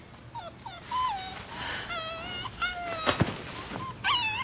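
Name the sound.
puppy whimpering at night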